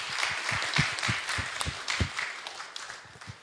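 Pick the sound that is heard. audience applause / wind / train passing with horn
audience applause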